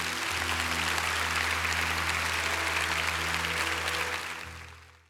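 An audience at a Champion Forest church service applauds God steadily for about four seconds, a dense wash of clapping over a low, sustained hum, before the applause fades out near the end.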